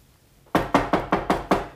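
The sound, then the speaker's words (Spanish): Six quick, firm knocks on a godfather's door, asking him to open it, in a steady, even rhythm, fairly loud, following a brief moment of quiet with no voices. “Padrino, por favor, abre la puerta.”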